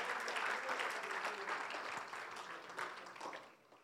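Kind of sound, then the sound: crowd, audience clapping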